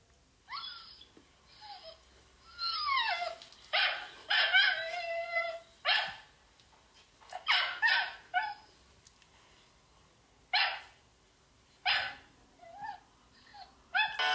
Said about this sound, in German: Als sie wieder aufwachten, war es noch mitten in der Nacht und sie hörten ein Bellen.